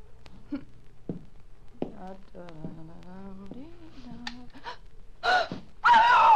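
Breathy gasps and a low, wavering moan build into a sudden loud, shrill scream near the end, cut off abruptly.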